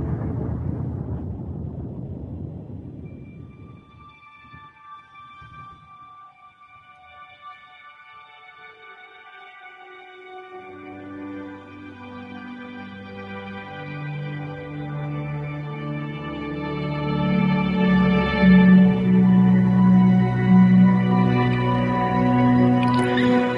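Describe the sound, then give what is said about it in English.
Saturn radio emissions, detected by the Cassini spacecraft's radio and plasma wave instruments over Saturn's rings in July 2004, with frequencies lowered by a factor of 5, rendered as sound: a rushing hiss fades out, then layered, eerie droning tones with rich overtones swell, waver in pitch and grow louder, with no voices. “The radio emissions were discovered by radio and plasma wave detectors on board the Cassini spacecraft as it passed over Saturn's rings during its arrival at the planet in July 2004.”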